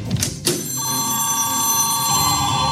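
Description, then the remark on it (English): A telephone bell rings loudly and continuously, a bright metallic trill that starts after a couple of short knocks and keeps going without pause, dominant with no voices. “The phone lines are lighting up.”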